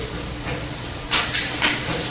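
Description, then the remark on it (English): A whiteboard being wiped: three quick, hissy swishing strokes in close succession over a steady low background hum, with no talking. “Can I delegate to you to erase for me this whiteboard, please?”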